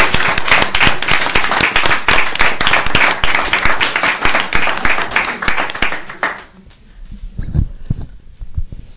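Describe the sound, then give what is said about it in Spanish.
Dense, steady applause from a group for the winners from Parla, many overlapping claps for about six seconds, then quickly thinning to a few scattered claps before fading out. “ganaron los de Parla. Un aplauso.”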